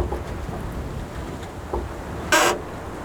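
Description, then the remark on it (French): Wind rushing through a vast wild forest in Slovakia: a steady, low rumbling roar with soft gusty swells, and one brief, brighter hissing gust near the end. No voices. “Ambiance dans le vent slovaque, mais ici, vous êtes à l'abri.”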